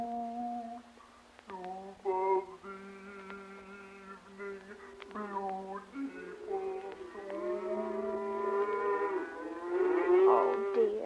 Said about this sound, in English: Only the cows. They're driving them home now.